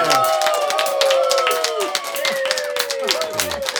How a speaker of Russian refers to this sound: Ну все, пацаны, аплодисменты!